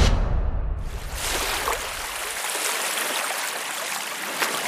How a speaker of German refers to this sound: Ist das nicht schön, oder? So klingt das, wenn ihr in einer Overwater-Villa übernachtet. Sanftes Rauschen und die Wellen, die dann Richtung Strand zu den anderen Villen rollen.